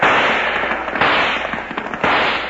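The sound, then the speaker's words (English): Gunshots ring out in a steady volley, three loud sharp blasts about a second apart with smaller crackling pops scattered between them, and no voices. “Nice shooting, O'Bannon.”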